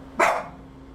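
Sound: dog barking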